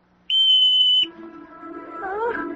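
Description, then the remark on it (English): A single sharp, shrill, loud whistle blast signalling students holding brooms to kick off from the ground, held steady for under a second, then cut off and followed by a quieter, lower wavering sound. “On my whistle, 3, 2...”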